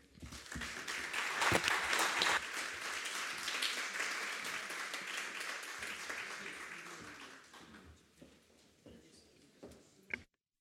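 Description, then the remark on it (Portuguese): Sustained audience applause for three presentations, a dense wash of many hands clapping at steady loudness for about seven seconds, then thinning into scattered claps and fading out, with faint talk mixed in. “Eu penso que estas três apresentações merecem os nossos aplausos, efetivamente.”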